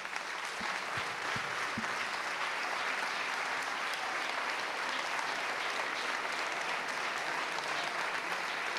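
A large crowd claps steadily and densely for the full stretch, a sustained wash of applause at an even, fairly loud level with no voices standing out.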